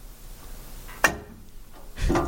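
A weight is set down on a weighing scale with a sharp clunk, followed a moment later by a second, broader rattling thud as the scale pops over with the weight. No voices are heard.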